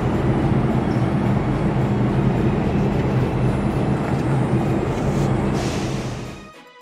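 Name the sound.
train at station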